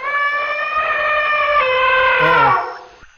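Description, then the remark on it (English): An elephant named Nola gives a loud, sustained trumpet: a brassy, harmonic blare that holds steady for over two seconds, then bends downward in pitch and fades out. No one speaks. “As you get up to Nola, she lets out a big, loud trumpeting sound.”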